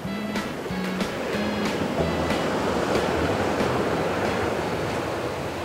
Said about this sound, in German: hole tief Luft und denke gerne noch einmal zurück an die durchaus kräftige Brandung an meinem Ankunftstag in der Bucht von Sagres.